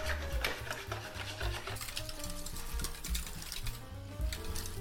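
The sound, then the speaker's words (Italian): A whisk scrapes and clinks rapidly against a bowl, dissolving a pinch of brewer's yeast in a little warm water in a steady, continuous rhythm, with a low, droning background underneath. “Quindi con la frusta facciamo sciogliere tutto.”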